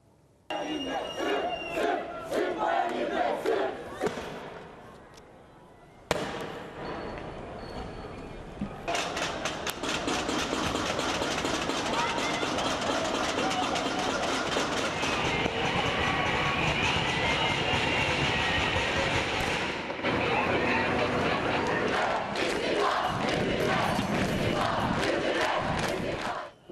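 A large crowd of anti-government protesters in Turkey, on the fourth day of protests calling for the resignation of Prime Minister Recep Tayyip Erdogan, shouts and chants loudly and continuously outdoors, voices overlapping in a dense roar, with rhythmic clatter and bursts of noise running through it.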